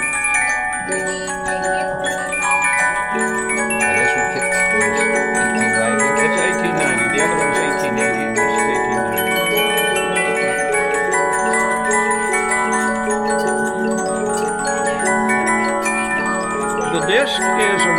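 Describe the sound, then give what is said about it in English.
A German disc music box plays a Christmas melody from a disc made in Vermont, its bright plucked metal tones ringing steadily and fairly loud for the whole stretch, sustained notes blending into a shimmering, bell-like texture. “And they came up with this disc system. This is a German box.”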